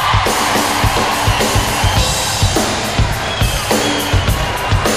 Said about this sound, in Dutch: En het programma zou niet Vrienden van Amstel heten als wij ook niet iemand uitnodigen op het podium. Doe me even een applaus,